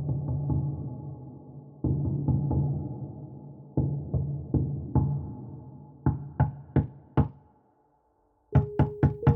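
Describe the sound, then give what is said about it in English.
Repeated heavy, rhythmic knocks on a door in the dark, in uneven clusters, resonant, with a booming low thud to each strike, then sharper, brighter raps after a brief silence near the end. “Rhythmic thumps on the door echoed my pounding skull.”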